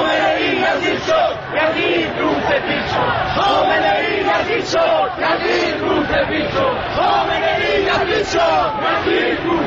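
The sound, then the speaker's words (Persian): A large crowd of angry protesters shouts slogans together on a street near College Bridge filled with riot police, in loud, rhythmic chanting, voices rising and falling in repeated bursts with a steady, forceful energy throughout. “به همین دلیل مردم خشمگین هستند و این خشم از شعارهایی که سر میدهند پیداست.”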